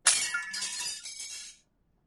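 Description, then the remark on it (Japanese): Glass shatters with a sharp crash as a girl's shopping bag falls onto asphalt, followed by about a second and a half of bright tinkling shards scattering and settling before silence. Clear, with no voices. “ガシャンというガラスの割れるような音が響き、床に落ちた少女の買い物袋がじわりと濡れる。”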